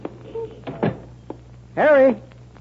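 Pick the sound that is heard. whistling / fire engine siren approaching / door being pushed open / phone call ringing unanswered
door being pushed open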